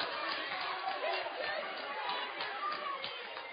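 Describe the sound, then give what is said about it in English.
Both crowds at a basketball game in a gym roar and cheer during a close game at 45-44, in a steady, dense wash of voices holding at an even level with small swells of shouting throughout and no single voice standing out. “And both crowds starting to get into it a little bit here.”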